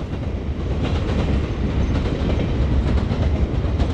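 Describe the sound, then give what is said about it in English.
Freight train cars roll steadily along railroad tracks in East Chicago, Indiana, coming and going from the city's steel mills, refineries and metal fabricating plants. A loud, continuous low rumble with faint rhythmic clatter from the wheels, and no one talking. “Freight cars constantly come and go from the city's steel mills, refineries, and metal fabricating plants that at one time made East Chicago the nation's most industrialized city.”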